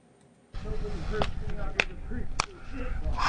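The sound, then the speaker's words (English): Three sharp, loud slaps of a sumo wrestler in a mawashi loincloth smacking his own body, spaced about half a second apart, ringing out over a steady murmur of crowd noise. “He starts out by slapping himself.”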